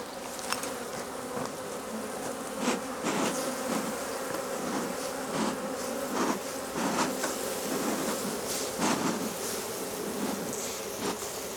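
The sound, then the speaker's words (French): A steady, dense hum of many honeybees buzzing in an open hive over the brood comb, continuous throughout with occasional brief clicks and knocks layered on top; no voices. “Donc là, c'est tout le couvain en fait, avec des abeilles qui vont naître en fait une fois que la reine pond, au bout de 21 jours, une abeille en fait qui arrive.”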